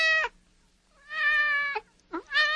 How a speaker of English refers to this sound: And then all of a sudden, as they're giving memories, they hear a cat. And they're like, whoa, hold up. Everybody stop crying. And I just hear a cat?